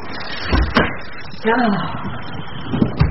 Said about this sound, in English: There. Now, I'll open the door.